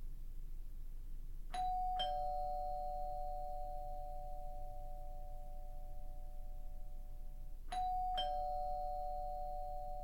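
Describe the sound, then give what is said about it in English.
A two-tone doorbell chime rings twice, each ding-dong ringing out and slowly fading, with a pause of several seconds between rings over a low, steady background rumble. “As the doorbell rang and rang, I huddled in the bathroom, shivering.”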